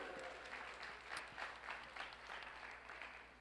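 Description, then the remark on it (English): An audience claps for the volunteers steadily for a few seconds, a dense patter of many hands at an even, moderate level with no voices on top. “give these volunteers a round of applause.”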